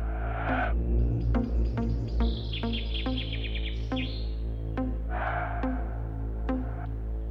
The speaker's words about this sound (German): Dort lauschen sie den Vögeln.